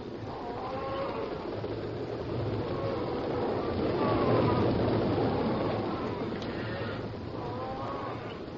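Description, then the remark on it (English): A cattle stampede of steers at night at the entrance of Foxhead Canyon: a dense, continuous rumble of many hooves pounding together, swelling slightly midway before easing, with faint higher bellowing cries rising over the low thunder. No talking. “But these sounds were swallowed quickly in the rhythmic thunder of many hooves that were like vague drum beats in the night.”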